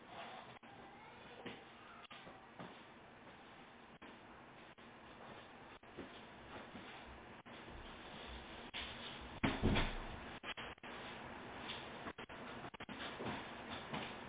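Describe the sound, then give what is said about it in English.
An office door is shut with a solid thump, preceded by shuffling and rustling movement; no one speaks. “hold on a minute, let me close my office door.”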